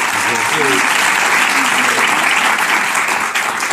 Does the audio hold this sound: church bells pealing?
no